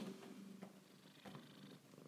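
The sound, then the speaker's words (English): The pet cat Whack-a-boo-boo purrs steadily, a soft continuous rumbling with a gentle pulsing rhythm, fairly quiet and heard on its own with no talking. “This is Whack-a-boo-boo purring, isn't it?”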